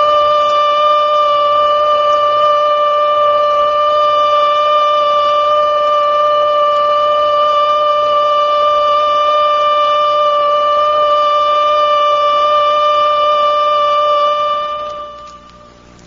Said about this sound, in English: First, learn the warning signals. The alert signal is a steady blast on a siren or fire horn of 3 to 5 minutes duration. This is how it sounds.